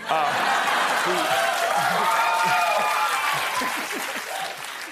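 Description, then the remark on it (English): An audience claps steadily for about five seconds, a dense, even patter of many hands that stays loud before easing slightly toward the end, with faint crowd murmur mixed in. “It was me that started clapping.”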